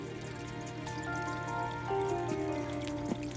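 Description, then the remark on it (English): Water trickles and drips steadily with small splashy plinks in the aquarium of a pet named Midnight, its water turning green with algae, over a low constant hum like a pump. The sound is moderately quiet and continuous, with no voices. “Your water is looking a little green again. More algae growth in the aquarium.”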